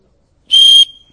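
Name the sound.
referee's whistle blown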